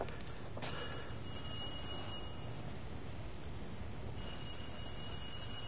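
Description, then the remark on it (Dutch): A doorbell rings with a sustained metallic jingle over a steady, rumbling background noise, briefly pausing and then starting again; no one speaks. “Duw op die bel.”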